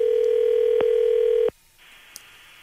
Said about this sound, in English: Are we ringing? Yeah. Is it ringing? It's going through. There we go. Let's see if he picks up.